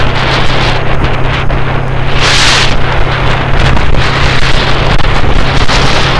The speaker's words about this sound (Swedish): Motorcykeln jag åker på är en Yamaha V-Max från 09.